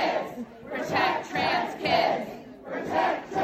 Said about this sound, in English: Young guys, and they're all focused on the person filming, shrieking, screaming, middle fingers up.